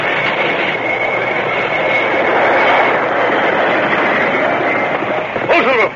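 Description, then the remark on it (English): A train grinds loudly along the rails as its brakes let out a long, high metallic squeal, the noise holding steady before a brief voice cuts in at the very end. “Stop the train. Stop it quick.”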